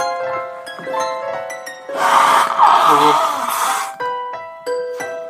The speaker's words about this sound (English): Also, I need to blow my nose again.